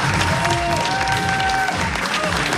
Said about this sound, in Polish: Brawa zebrały piłkarki Lecha Poznań UAM po przegranym meczu z Pogonią Szczecin 1-3.